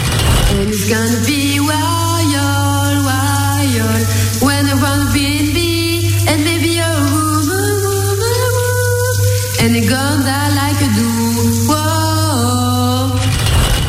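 Steady hiss of shower water runs the whole time beneath a woman singing a melodic, rising and falling tune, her voice strong and climbing into higher notes.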